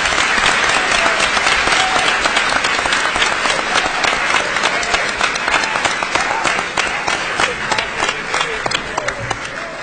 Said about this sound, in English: If we could do this, can you join me in giving a round of applause to all of the both the attorneys here today?